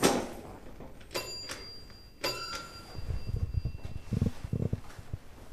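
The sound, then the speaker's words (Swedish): A doorbell at a fifth-floor apartment door rings twice with short, bright chiming tones that linger briefly, pressed by someone standing outside the door, followed by low shuffling and handling noises. “Jag ringde på dörrklockan, ingen öppna.”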